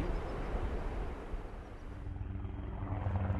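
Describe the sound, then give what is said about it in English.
A Black Hawk helicopter with its side doors open flies at low altitude along the beach on the Bolivar Peninsula, a loud, steady rotor drone with heavy low rumble and a churning, windy wash, growing more tonal toward the end as it passes low. “Black Hawk helicopters fly up and down the beach at low altitude, their side doors open to the breeze.”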